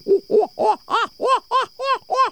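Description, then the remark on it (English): An owl gives a rapid series of eight hooting, arched calls, each about a quarter second, rising and falling in a chattering, almost monkey-like rhythm, fairly loud with no talking. “And that's when you're most likely to hear their food begging calls, as well as that surreal call that sounds more like monkeys than an owl.”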